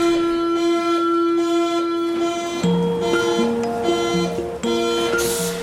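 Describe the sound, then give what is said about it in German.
A subway train pulls away from a station, its electric motors giving a steady tonal whine that then climbs in distinct stepped pitches as it accelerates, fairly loud with no talking. “Ich sitze ein paar Wochen später in der U-Bahn und bekomme eine Mail.”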